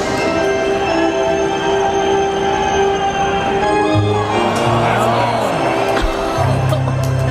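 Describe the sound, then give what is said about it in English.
A large ballpark crowd, recorded from within the stands, roars and murmurs steadily as a first pitch is thrown far outside, a dense wash of voices with no single standout cheer, plus some tonal hums and ringing in the background. “So this video, which we're going to listen to, obviously, was shot from the crowd.”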